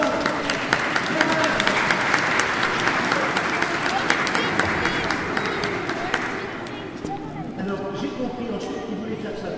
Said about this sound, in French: Est-ce qu'il y a des Anglais parmi nous? Oui. Ah oui, bravo, je crois qu'on peut les applaudir très fort.